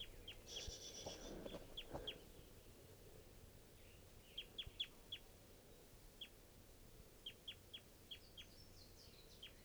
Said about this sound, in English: Another wild bird.